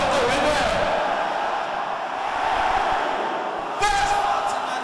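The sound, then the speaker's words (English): A crowd of voices, the brothers of the audience, shouts and cheers together in a loud, continuous roar, with a brief sharp burst of louder yelling near the end. “Brothers, am I hearing shouting?”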